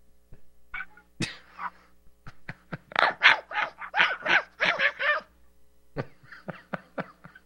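small dog barking

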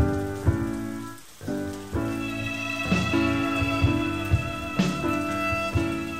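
rain falling

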